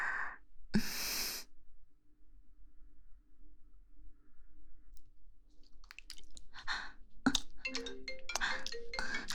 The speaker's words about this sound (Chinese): 老公来电话了，他肯定是看我们不在，问我们去哪了。